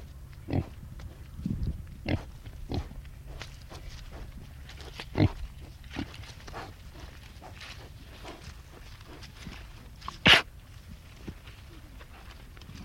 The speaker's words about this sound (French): Et il a fallu 7 cochons, je vous le dis entre nous, vous allez l'entendre, pour parvenir à trouver un cochon qui truffe.